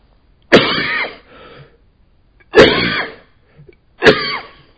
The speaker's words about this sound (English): That was a real cough.